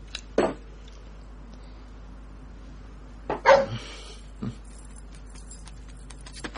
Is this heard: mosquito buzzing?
no